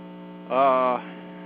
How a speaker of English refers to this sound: You're having a hard time hearing me over the hum? Yeah. What I'm wondering is if the characteristics of the hum will change once they've fixed the line.